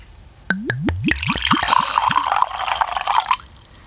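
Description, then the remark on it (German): Dewdrop Licket vanilla-cherry mead pours from a bottle into a glass. It starts with a quick run of about eight rising glugs that give way to a steady splashing fill lasting a few seconds. No one speaks. “So, dann schildere uns doch mal deine Eindrücke, während ich mir eingieße.”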